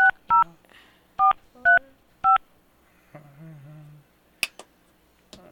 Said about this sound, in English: We're gonna try it again here again. So you're going to hear a dial tone. I'm not hanging up on you.